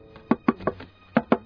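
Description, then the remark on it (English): A secret knock on a door: three quick raps, a short pause, then two more, crisp, with no one talking. “I must do the secret knock.”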